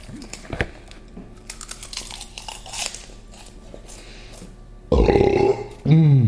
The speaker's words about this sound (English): Oh man. That was a great burp. Thank you.